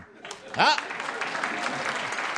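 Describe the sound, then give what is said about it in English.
A live radio show audience breaks into steady, dense applause, with a single rising whoop near the start riding over the clapping, as those who get a Barney Google reference applaud. “How many of you get a Barney Google reference? Applaud now, you're on radio.”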